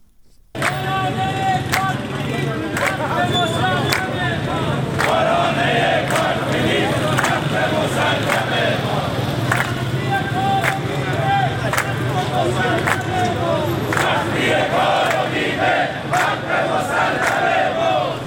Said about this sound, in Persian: رانندگان بخش خصوصی روز دوشنبه در مقابل دفتر رئیس جمهوری در تهران در اعتراض به اتوبوس‌های فرسوده و تحقق نیافتن مطالبات خود تجمع کردند. به گزارش سندیکای کارگران شرکت واحد اتوبوسرانی تهران و حومه آن، آنها شعار می‌دادند تا حقتو ندادند استارت نزن راننده.